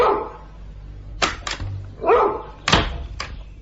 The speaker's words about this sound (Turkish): İşte köpek. Karyolanın ayağına bağlı.